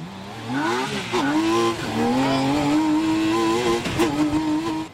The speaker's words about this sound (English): it comes in blinding red, orange, and yellow, and it sits so close to the ground you can stretch out your hand and pat the asphalt for good luck. And you'll need it as the open-sided car hurtles down the road.